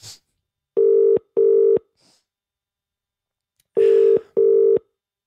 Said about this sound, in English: Can't work out if it's a phone ringing or him communicating with his robot friends in Morse code.